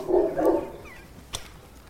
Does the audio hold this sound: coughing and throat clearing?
no